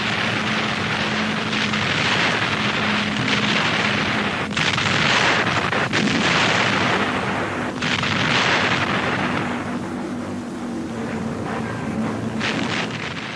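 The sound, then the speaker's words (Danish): Heavy bombs dropped by Stuka dive bombers on apartment blocks by the Volga during the Battle of Stalingrad burst in a dense, continuous roar, with several louder blasts standing out over a steady low droning hum. “Stuka belegen Häuserblocks an der Wolga mit schweren Bomben.”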